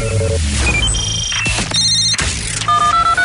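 telephone ringing sound effect

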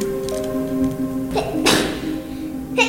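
child sneezing

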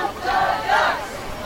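crowd chanting and cheering

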